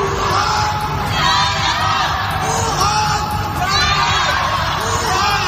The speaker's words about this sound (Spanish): Es el sonido de los ciudadanos de Wuhan gritando desde las ventanas de sus casas cuando a principios de enero de 2020 fueron confinados al poco de detectarse el primer brote en un mercado de esa ciudad.